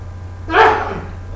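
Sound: sneeze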